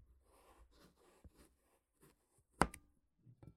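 A kitchen knife, freshly sharpened on a whetstone, cuts a pumpkin with soft, crunchy scraping strokes, then a sharp knock as the blade hits the cutting board, followed by a couple of faint taps. No one speaks.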